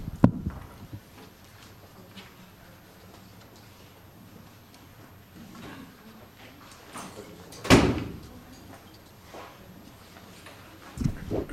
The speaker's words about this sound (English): I'm going to close this door and turn off that light so that it's not in our way.